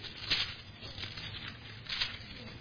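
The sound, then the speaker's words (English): Soft, papery rustling of many Bible pages turning to 1 Kings chapter 3, with a few brighter swishes rising at irregular moments over a steady low murmur of shuffling, faint overall and with no one speaking. “I like to hear those pages rustling.”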